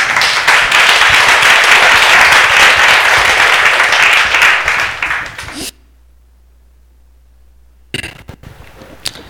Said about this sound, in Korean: 박수 다시 쳐주세요.